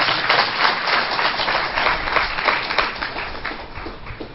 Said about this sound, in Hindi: कोई अंगद होकर नहीं गया है, ये सारे अंगद बैठे हैं, तालियां तो बजाओ।